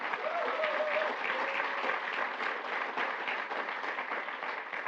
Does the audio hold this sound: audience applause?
yes